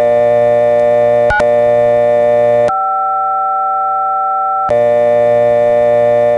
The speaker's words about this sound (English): But then that dial tone didn't seem to respond to anything I dialed.